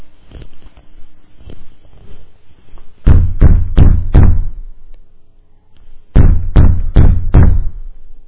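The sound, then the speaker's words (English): Two loud bursts of four sharp knocks on a neighbor's door late at night, spaced by a pause of a couple of seconds, with fainter tapping before them and no voices. “So he gets out of his house, and he goes to his neighbor, and he knocks on the door.”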